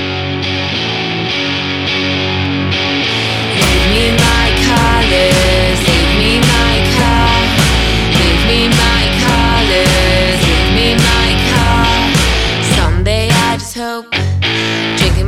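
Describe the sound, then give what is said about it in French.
A loud rock song by a guitar-and-drums duo, with sharp, heavily distorted guitar riffs and pounding drums kicking in after a brief intro, driving steadily before a short break near the end. “Un duo qui mêle puissance et légèreté, du Larsen au murmure.”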